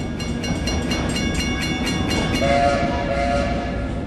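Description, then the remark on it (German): A locomotive-hauled train to Pittsburgh rumbles steadily along the tracks through a snow-covered mountain landscape past the nearly frozen Allegheny River, with a dense, rattling roar and faint rhythmic clatter, joined midway by a sustained whistle-like tone. Continuous, with no voices. “Während die Lok über die Gleise rattert, wächst ihre Aufregung.”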